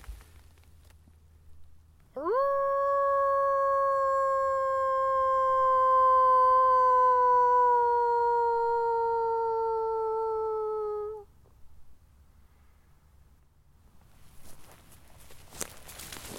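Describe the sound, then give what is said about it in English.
A person in a forest in Germany's wolf country gives one long, sustained howl imitating a wolf, rising sharply then holding a steady, slowly falling tone for about nine seconds before stopping, followed by quiet outdoor ambience and faint footsteps. “I've been trying to get a wolf to howl back to me since I arrived in Germany. Screw it. I gotta try one more wolf howl.”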